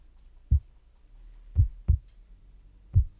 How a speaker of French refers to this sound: Tu les entends, mes battements de cœur ?